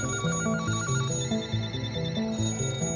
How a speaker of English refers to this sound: And then, over the course of 24 hours, everyone else's phones in New York started ringing.